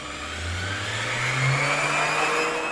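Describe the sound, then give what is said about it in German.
A powerful lab power mixer under a fume hood in the RWE Dea laboratory in Wietze whirs steadily with a low, slowly rising drone as it churns a thick, viscous, pudding-like mass. It is loud, with a bright mechanical whine on top. “Ein Power-Mixer, der eine zähe Masse anrührt.”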